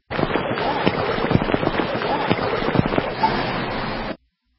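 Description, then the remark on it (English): Floodwater rushes through the streets of Miami in a loud, steady roar of churning water, broken by occasional sharper splashes and thumps, lasting about four seconds with no voices. “How many of you have experienced this rushing water sound when there's floods?”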